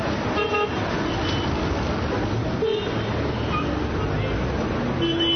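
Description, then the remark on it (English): Dense street traffic rumbles steadily in Bethlehem as drivers jockey for space, with several car horns tooting in short bursts over the din and a crowd murmuring in the background. “Aggressive street vendors hawk souvenirs as drivers jockey for space on roads clearly designed for camels rather than cars.”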